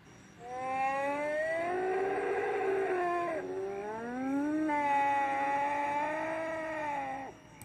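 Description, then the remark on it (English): A T-Rex mating call sound effect from Walking with Dinosaurs: two long, loud howling wails with rich harmonics, the pitch sliding and bending, one flowing into the next with nothing else in the background. “And the mating call of a T-Rex would be pretty interesting, because in Walking with Dinosaurs, the T-Rex's mating call sounds like this.”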